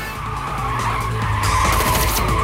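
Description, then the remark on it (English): A car skids hard through a junction during a chase, with a black car not far behind, tires squealing over a roaring engine. Loud, the screech holds steady for a couple of seconds, with no voices. “Stan charges through a junction with the black car not far behind.”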